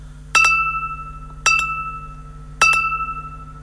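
A radio time signal marking ten o'clock: three evenly spaced tones about a second apart, each starting with a bright struck attack and then ringing at a steady pitch, over a low background hum.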